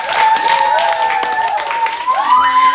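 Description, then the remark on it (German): An audience applauds to welcome two performers about to present something: dense, steady clapping that keeps up its loudness throughout, with a few sustained whoops or whistled tones riding above the clapping. “Applaus bitte.”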